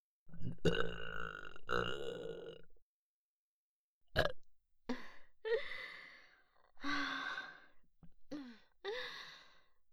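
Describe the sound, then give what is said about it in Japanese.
A long, loud burp after swallowing semen is followed after a pause by several shorter croaking burps and breathy exhales, with no talking. “あなたの欲望が私の中に入った証の精液ゲップ。”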